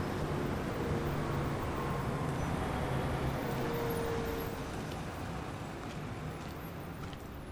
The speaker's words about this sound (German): Zusammen mit diesen ganzen Abgasen hier, wenn man nah an den Autos vorbeigeht, ergibt sich eine gefühlte Temperatur von 50 Grad an den Füßen.